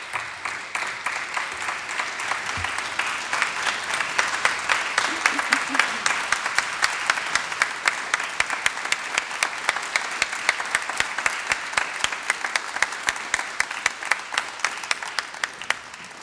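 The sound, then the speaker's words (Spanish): An audience in the Radio Nacional auditorium applauds steadily for about sixteen seconds as the performing artists are invited onto the stage, a dense wash of clapping that swells early and holds at a fairly loud, even level, with no speech over it. “Voy a invitar a nuestras artistas a que se sumen al escenario de Radio Nacional, el auditorio, y espero con ustedes compartir este aplauso.”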